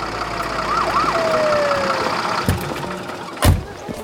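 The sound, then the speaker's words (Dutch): A large red fire engine rolls in with its siren wailing in rising and falling sweeps over a low engine rumble, followed by a couple of sharp thuds or clunks near the end. “Even later komt er een grote rode brandweerwagen aangereden.”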